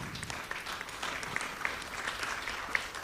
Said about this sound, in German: Genau, erstmal ein großer Applaus.